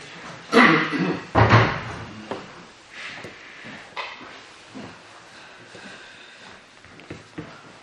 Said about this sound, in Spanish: Si dices tú que se puede, vamos, luego cerrar la puerta, por favor.